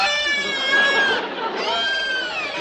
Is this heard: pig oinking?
yes